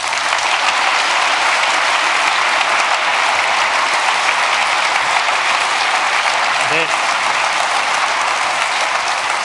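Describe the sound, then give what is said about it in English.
A large audience claps steadily, a dense, even wash of applause that fills the space without pause for the whole stretch, loud. The applause is for the POC event phone team, who provided the DECT and IP telephone systems. “the DECT telephone system and the IP telephone system that the POC, the event phone people, provided, and we want a big round of applause for them as well.”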